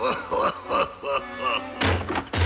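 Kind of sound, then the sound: impact, door being smashed down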